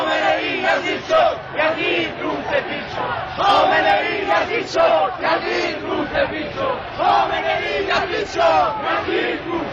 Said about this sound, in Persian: به همین دلیل مردم خشمگین هستند و این خشم از شعارهایی که سر می‌دهند پیداست.